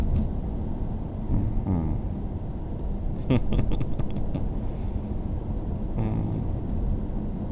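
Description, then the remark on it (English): Steady rumble of a car interior while driving in the rain, rain hissing against it, a continuous low wash of noise, with faint voices murmuring briefly at moments. “It's a perfect storm. It's rain, driving, both those things will put you right to sleep.”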